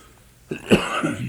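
A person coughs or clears their throat a couple of times, short rough bursts with one louder hack in the middle, no talking.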